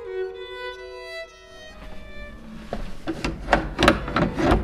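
A drawn-out, tonal creak is followed by a quick series of heavy wooden door slams from the guard room door of the castle of Gruyère, about half a dozen loud bangs in irregular succession, with no one speaking.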